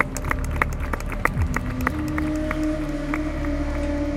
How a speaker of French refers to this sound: qu'à la mi-journée, les enseignants organisent une manifestation pas comme les autres, devant les bureaux de l'administration. Et là, les professeurs s'applaudissent et puis les étudiants autour qui se sont rapprochés les applaudissent aussi.